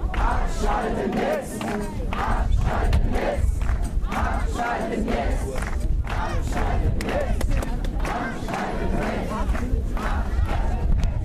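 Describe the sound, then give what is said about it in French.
A large anti-nuclear protest crowd chants slogans in French and German calling for the Fessenheim nuclear plant to be shut down, in a loud, steady rhythm, many voices shouting together in repeated bursts that fill the whole stretch without a break. “Mais qu'attendre du futur du mouvement antinucléaire en regardant la foule de la manifestation sans être dominée par des personnes d'âge nu?”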